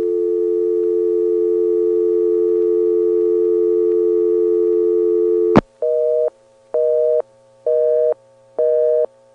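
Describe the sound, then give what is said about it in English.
A loud, steady telephone dial tone drones after 9 is dialed and is left to time out, then a click cuts it off and an NX1 exchange busy signal follows: four evenly spaced tone bursts in a brisk on-off rhythm. “I'm a little sensitive about loud NX1 busy signals because I used to have a girlfriend who hated them.”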